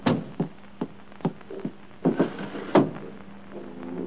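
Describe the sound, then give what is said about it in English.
A door being shut, heard as a string of soft, irregular thuds and knocks, with a heavier thump near the end, then a quiet hum. “Go to lunch and close the door.”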